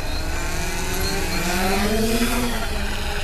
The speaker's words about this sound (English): He and fellow scientist Carolyn Miller stand at the bow. She holds the foot-long drone above her head, and Moore launches it out of her hands, 200 feet into the pale blue sky.